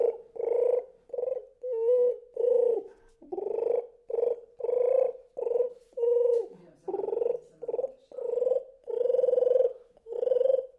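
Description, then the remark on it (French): A voice imitates a turtle dove, producing a steady run of low, throaty cooing notes, about a dozen short rounded bursts in an even rhythm, fairly loud with no other talking. “Et la tourterelle, c'est...”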